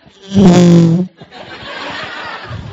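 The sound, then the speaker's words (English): A fart whistle toy from an Easter egg gives one loud, buzzy, low-pitched raspy blast lasting under a second, then cuts off into a stretch of softer, breathy, crackly noise. “You got a fart whistle. Let's listen to it.”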